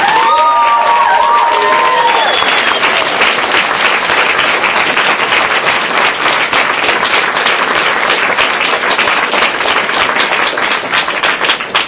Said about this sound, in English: So we're actually at the end of the panel section. If everyone could give a round of applause for this.